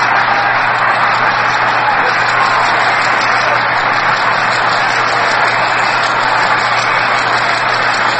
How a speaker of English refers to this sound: Radio friends, I'm stopping after each of those blows so that you too might get the thrill of hearing this enormous crowd here.